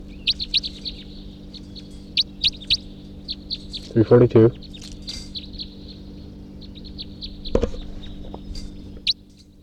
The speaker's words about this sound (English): There may be wild birds coming around here now.